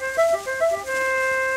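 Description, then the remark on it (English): A toy bugle toots a quick run of short, bright notes, then holds one steady, brassy tone to the end, played alone. “This bugle for a nice boy scout.”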